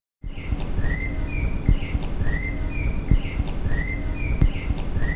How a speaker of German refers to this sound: Dass das Vogelgezwitscher möglichst laut ist und dass alles, was drumherum so rauscht und so weiter, nicht so laut ist.